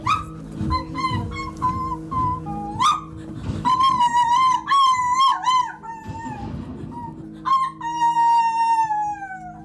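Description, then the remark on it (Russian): An actress in a stage play imitates a lost puppy, producing a long run of high, plaintive whimpers and drawn-out whines that rise and fall continuously, fairly loud, over a low steady background hum. “Но, тем не менее, хочу сказать, что когда она вот зашевелилась в этой куче в самом начале спектакля и потом стала подвывать так жалобно, она убедила, абсолютно убедила, что это действительно маленькая потерявшаяся собачка.”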